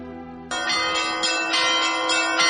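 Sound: church bells ringing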